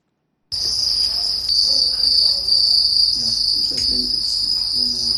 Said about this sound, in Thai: เป็นคนบุกเบิกการทำฟาร์มจิ้งหรีดค่ะมีจุดเด่นคือเสียงร้องที่เป็นเอกลักษณ์แต่ว่ากลายมาเป็นอาหารที่เป็นอาหารทางเลือกของผู้คนในเคนยาค่ะ